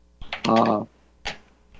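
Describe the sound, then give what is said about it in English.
A few sharp keyboard clicks spaced irregularly, with a short voiced sound in between, like someone tapping keys on a computer keyboard. “We can hear that keyboard”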